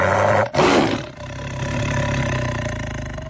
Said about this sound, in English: He's prowling. He's on the prowl. I like that Tiger roar, because it's just a little too much.